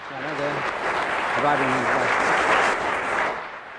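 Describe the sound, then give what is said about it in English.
A studio audience claps steadily for several seconds, a dense, sustained wash of applause with a voice briefly speaking over it near the start before it fades out at the end; applause for a contestant in a round of a panel game. “He got more applause than either of you.”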